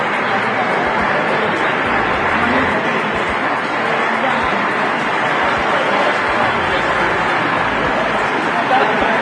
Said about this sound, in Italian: È l'applauso che ha consegnato alla storia la firma del nuovo Trattato di Roma, 60 anni dopo.